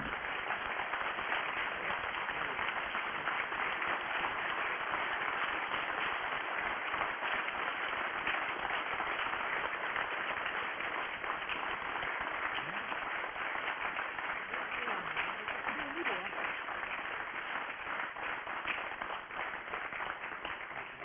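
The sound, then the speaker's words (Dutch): Sustained audience applause at a council meeting, honouring the council clerk: a dense, steady wash of many hands clapping at an even loudness for about twenty seconds, with faint murmurs underneath. “Heel graag een groot applaus voor onze griffier.”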